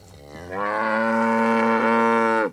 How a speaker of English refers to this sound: Some 40 Brangus cattle amble along the dry pasture and mesquite scrub of Robert Cervenka's ranch.